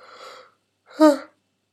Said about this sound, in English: Oh, the yawns.